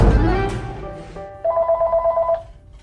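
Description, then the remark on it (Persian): A telephone rings with a fast, warbling electronic trill lasting about a second, fairly clear, following a brief rush of clattering background noise. “آخه من که نمیتونم گوشی تلفنتو رو بردارم جواب بدم.”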